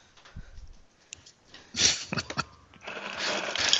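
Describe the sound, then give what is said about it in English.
An ice maker runs with a few sharp rattling bursts, then settles into a steady, hissing grinding clatter that continues to the end. No one speaks. “It's called an ice maker.”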